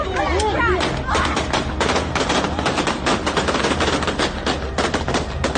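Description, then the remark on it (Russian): Rapid, irregular volleys of gunshots fired into the air at a rally crack loudly and almost continuously, layered over the shouting of an agitated crowd, with a few raised voices audible at the start. “Ну, так, на митинге, как я понимаю, страсти накалились, пошли выстрелы в воздух.”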